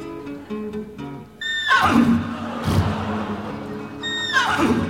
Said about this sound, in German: Er hatte sich gerade 3 an die Pfanne geschlagen und war gerade dabei, Gemüse zu putzen, als sein treues Pferd Adalbert Karl Friedrich zu wiehern anfing.